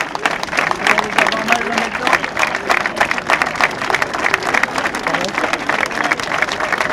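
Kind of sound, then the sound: crowd, crowd applause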